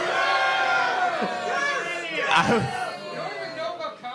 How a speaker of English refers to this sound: That's exactly what you should do when you don't agree with my decision, is boo.